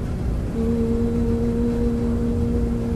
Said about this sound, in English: So I'm in my laundry room in my apartment building, and I'm going to share with you the sound of the dryer. Okay, do you hear that? It goes, it's a lower note. It goes.